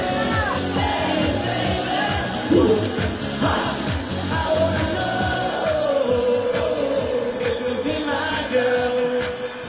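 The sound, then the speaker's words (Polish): A loud, lively crowd cheers and whoops over dense clapping, with scattered shouts rising above a steady roar that carries on for the whole stretch. “Super, super, super, wielkie brawa.”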